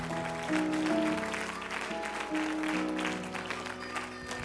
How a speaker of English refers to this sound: Before you're seated, why don't we give God another hand clap of praise in the house tonight.